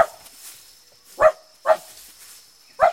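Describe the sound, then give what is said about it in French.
A dog, Milou, barks four times in short, sharp bursts, spaced irregularly, with a faint steady background hum and no talking. “Ne t'éloigne pas, Milou. Milou! Ce chien n'en fait qu'à sa tête.”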